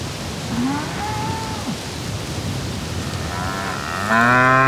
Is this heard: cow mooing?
yes